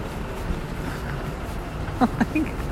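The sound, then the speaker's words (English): A tow truck's heavy engine rumbles steadily right behind the speakers outdoors, a constant low drone with wind-like noise, and a few brief vocal sounds break through near the end. “Gosh, it's a tow truck out here.”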